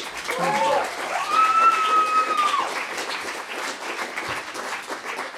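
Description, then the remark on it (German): A crowd applauds steadily for several seconds, dense clapping with a brief whistle rising over it early on. “bitte Applaus.”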